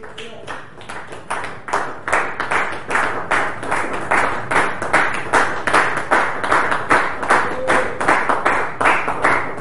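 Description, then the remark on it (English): A crowd claps hands together in a steady, rhythmic beat, sharp bright slaps repeating roughly three times per second and holding even loudness throughout, with no talking over it. “But you can clap.”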